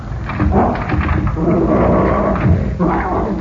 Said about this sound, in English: Seems to be no one here but the dog.